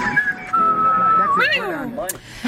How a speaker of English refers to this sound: Wow, you're a good whistler.